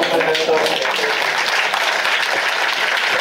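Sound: applause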